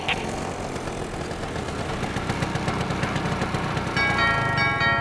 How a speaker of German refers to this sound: Kurft mit einem rosa Motorroller in der Gegend herum